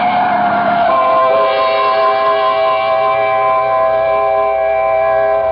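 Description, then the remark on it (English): A loud truck roars along a street, its engine droning with a steady, strained tone and a sustained horn-like whine that holds throughout without letting up. “Look out for the truck”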